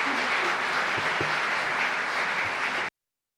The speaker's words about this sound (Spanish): Por favor, les pido a todos que se pongan de pie y que les demos a todos ellos este cálido aplauso. Muchas gracias.